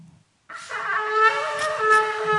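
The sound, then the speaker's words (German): A shofar horn blown in one sustained, brassy blast lasting about two seconds, rich in buzzing overtones and wavering slightly in pitch, loud and alone after a brief moment of quiet. “Und sie sollen in diesem Moment, wenn sie da stehen, um 22 Uhr nachts, in das Schofarhorn pusten.”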